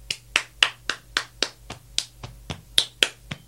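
A steady rhythm of about a dozen sharp hand claps and slaps against the chest, playing the Hashima, a binary rhythm of two sounds, ones and zeros, without a drum; some crisp and accented, others duller, evenly spaced with no talking.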